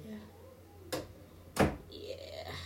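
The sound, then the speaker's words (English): A door is opened: two sharp clunks of the latch and handle, the second louder, followed by a soft, sustained high hiss or creak as it swings, over a low background hum. “Can't make a podcast with my door closed. Gotta get it open so they talk to me.”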